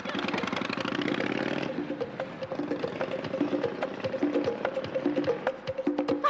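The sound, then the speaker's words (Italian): A car engine turns over and catches, then settles into a steady, knocking idle with a rapid mechanical pulse, fairly loud, with no talking over it. “Se non metti in moto subito, chi ti ammazza d'accordo, sarò io.”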